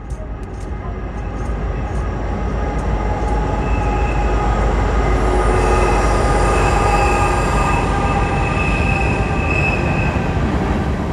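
At night, a train rumbles past a tent site right alongside a railroad line in Boiling Springs, Pennsylvania, on the Appalachian Trail, recorded on a phone. Its steady roar builds after the first couple of seconds and holds loud, with high metallic wheel squeals ringing over the clatter. No voices.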